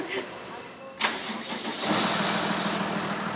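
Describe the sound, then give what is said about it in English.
The truck engine of a mobile CT scanner unit cranks with a sharp click and catches, then settles into a loud, steady rumbling idle that carries on to the end. “Then the mobile unit hits the streets.”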